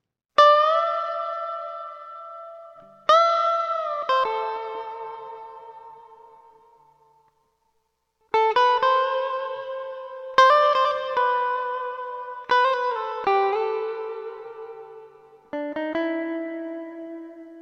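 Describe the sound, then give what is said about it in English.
An electric lead guitar plays a song's intro riff as a lesson demonstration, in a clean tone without distortion, with sharply picked notes that ring out and fade with some reverb, broken by a short pause midway, with no voices. “And here's what the lead guitarist plays during the intro.”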